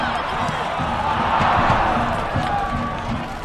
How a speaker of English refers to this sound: Mexico fans there cheering on their World Cup-bound national team, not in Mexico City, but just outside Boston at Foxborough Stadium.